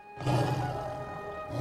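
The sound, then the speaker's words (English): A black lion's deep, rumbling roar swells up after a brief pause and holds steady for over a second, loud, with no voices over it. “She kneels before the black lion.”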